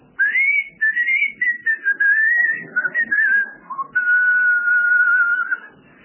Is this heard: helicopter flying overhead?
no